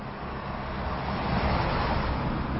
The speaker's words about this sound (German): Viel Verkehr hier auf der Neckarbrücke zwischen den Heidelberger Stadtteilen Schlierbach und Ziegelhausen.